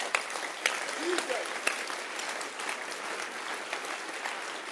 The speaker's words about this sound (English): Keep clapping now, because we are using it to pray. We are praying right now that there'll be a convert in your life.